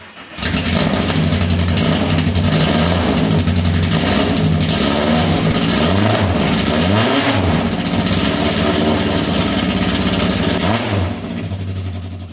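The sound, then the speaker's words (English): A Datsun 510 car engine turns over and runs loud, with several throttle blips revving past about 2,500 rising and falling in pitch over a steady idle, then settles at the end. No one speaks. “How about we hear the 510? So Kalen went over there and recorded the 510.”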